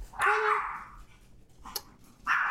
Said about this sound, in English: Is someone over right now? It's the only reason she should be barking right now.